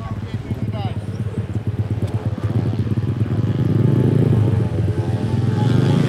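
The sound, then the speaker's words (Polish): A small speedway motorcycle engine drones steadily on the mini speedway track on Kresowa Street in Lublin, used by beginner riders of Motor Lublin, its buzzing pitch climbing as it accelerates, loud and continuous for the whole stretch. “Jesteśmy przy ulicy Kresowej, gdzie znajduje się tor mini żużlowy oraz mała traska motocrossowa dla początkujących adeptów Motoru Lublin.”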